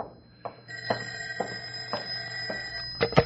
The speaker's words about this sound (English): Uh-oh, phone.